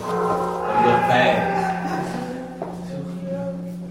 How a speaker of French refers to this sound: Vous entendez les cloches ? Elles sonnent le glas.